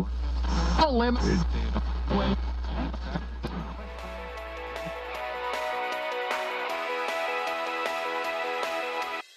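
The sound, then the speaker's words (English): A production-style music track plays on Radio Icebox, opening with warbling, sliding tones over a low hum before settling into a steady rhythmic groove with bright sustained chords. “Well, that about does it for Rideau's Redux today, your source for all the latest and ridiculous-sounding production music.”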